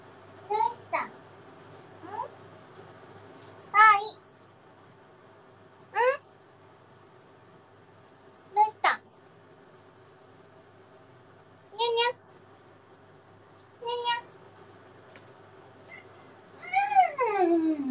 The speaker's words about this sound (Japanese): みんな聞こえた？かわいいでしょ？ にゃーって泣いた。